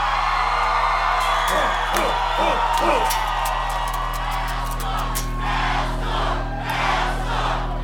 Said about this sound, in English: see all of these people screaming these lyrics back at you.